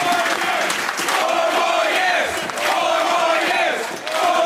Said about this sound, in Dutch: En toen had men inmiddels dus een soort sfeertje van, nou, het gaat toch hartstikke goed in Wouter Bos die verliest. Dus er ontstond een enorm gejuich. Er werd gezongen, JP bedankt, JP bedankt.